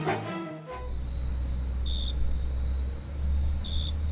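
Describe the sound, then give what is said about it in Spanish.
Crickets chirp at night, keeping up a thin, high, steady trill that swells into two brighter bursts, over a heavy low rumble, after a brief harmonic sound at the start. “De golpe estaba en el Tigre a la noche y todos estaban, qué hermosos los grillos, qué hermosos los grillos.”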